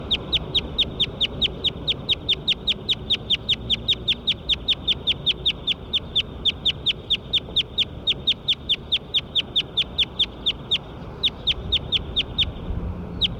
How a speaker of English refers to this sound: Recording bird nine again. Nine.